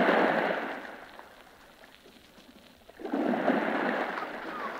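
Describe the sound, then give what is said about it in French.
Large ocean waves crash in two broad, roaring surges, the first fading into a quieter lull before the second swells up loudly and lingers. No voices. “Vagues énormes, soleil en feu, brume sur l'horizon, la plage, sable brillant”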